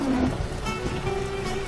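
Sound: rain falling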